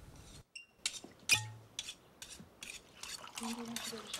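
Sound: knife being sharpened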